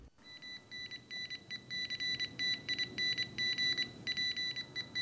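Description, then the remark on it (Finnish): A loud, harsh Nokia mobile phone ringtone, made at the Nokia phone factory in Salo, Finland, in 1997 for the Chinese market, blares continuously, its shrill electronic tones pulsing in rapid, repeating bursts with short gaps, piercing, with no voices. “Täällä Nokian kännykkätehtaalla Salossa tiedetään, että Kiinassa kännykän on soitava pitkään ja raastavasti.”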